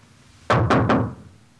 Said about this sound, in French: Pourtant, chaque jour, sa mère vient frapper à sa porte.